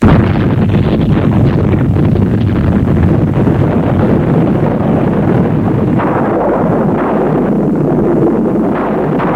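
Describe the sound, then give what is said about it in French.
A thunderstorm outside: a loud, steady wash of falling rain roars without a break, with deep rumbling thunder rolling underneath throughout. No voices are heard. “Dehors, il fait un orage. On entend le tonnerre et l'eau qui tombe.”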